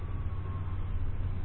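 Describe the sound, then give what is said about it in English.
A steady, heavy low rumble of a running train in a film's opening sequence set in East Germany, continuous and fairly loud, with a faint high whine riding above it and no voices. “And we're starting out with a train sequence.”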